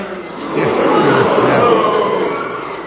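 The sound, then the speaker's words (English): An audience, split into groups on cue, whooshes and roars together, some imitating howling wind and others rumbling thunder for a storm, in a broad, sustained swell that rises, holds loudly, then gradually fades. “You guys are wind. Ready? Lots of wind. And then you guys are the lightning. Ready? The thunder. Let's hear it.”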